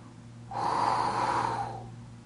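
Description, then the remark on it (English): A single forceful breath blown out, imitating breath breathed into Adam. It is a rushing, airy exhale lasting over a second before fading, with no talking and a faint steady hum underneath. “He wasn't breathing oxygen into Adam. He was breathing from his own spirit.”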